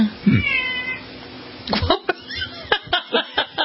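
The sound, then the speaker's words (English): A cat lets out a drawn-out meow with wavering pitch, followed by a burst of short laughter-like chuckles in a quick rhythmic series. “Had a cat call from the cat.”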